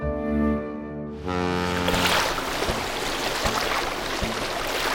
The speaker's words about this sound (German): Mit dem Dampfer.